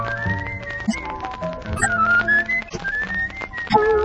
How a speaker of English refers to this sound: All for now, friends. It's time to be whistling along.